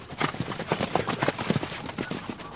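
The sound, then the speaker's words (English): Horses gallop around a dirt track at the Inanda Club, guided by a rider, their hooves thudding in a quick, steady drumming rhythm at moderate loudness, with no voices over it. “guides horses on a gallop around a dirt track.”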